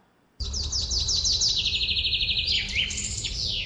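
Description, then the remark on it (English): A sparrow chirps in a quick, repeating series of bright, high notes that speed into a rapid trill, fairly loud, with a low rumble of background noise underneath. “This is a sparrow.”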